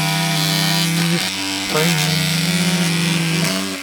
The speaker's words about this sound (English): And so, Boish the barber got right to work. Buzz, buzz.